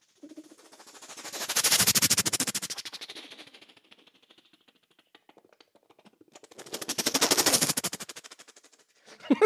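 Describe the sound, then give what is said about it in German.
Someone imitates a helicopter flying from left to right, in the style of a classic Vietnam-era helicopter, with a rapid, chopping rotor-like pulse from the lips, swelling loud and fading twice in long passes, with a brief lull and a few quiet clicks between. “Ich, ein kleines Beispiel, vielleicht ein Hubschrauber, der von links nach rechts fliegt.”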